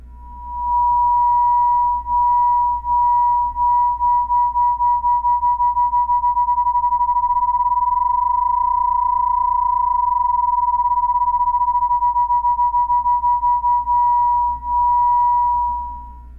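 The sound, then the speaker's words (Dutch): Two nearly identical pure sine tones sounding together in unison, their slight mistuning producing a steady, regular beating that swells and fades rapidly for about sixteen seconds, with no voices. “Und noch viel deutlicher bei einem Einklang.”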